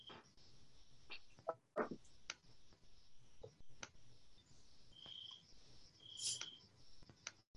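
Crickets chirp in a steady, high, continuous trill throughout, heard over a video call, fairly faint, with a few scattered clicks and soft knocks and no talking.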